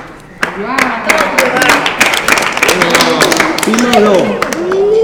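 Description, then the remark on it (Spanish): A burst of applause starts abruptly and continues with steady, irregular clapping, while several voices talk and call out loudly over it. “Un aplauso para mi”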